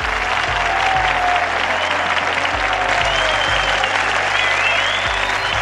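Sustained audience applause for a secondary-school student presenting her project, a dense steady wash of many hands clapping at even loudness throughout, with occasional whistles rising above it and low thumps underneath.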